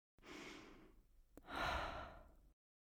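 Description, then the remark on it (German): A slow, audible breath in through the nose followed by a longer, airy exhale through a slightly opened mouth, soft, as a relaxation breathing exercise, with no talking. “Also, durch die Nase ein, durch den leicht geöffneten Mund ausatmen.”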